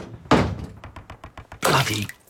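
A heavy trap door, set flat in the ground of a small cellar among bricks and steel, thuds shut twice, each a loud, resonant bang, with a quick run of small metallic clicks and rattles between them.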